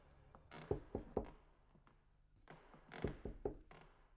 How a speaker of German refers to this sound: wandte sich in Richtung Salon und klopfte vorsichtig an.